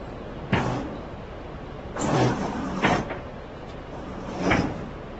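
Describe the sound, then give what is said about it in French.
A door is opened and banged shut again and again, four solid thuds at uneven intervals over a steady low background hum, loud, with no one talking. “Bon, ouais, arrêtez de jouer avec la porte, les gars.”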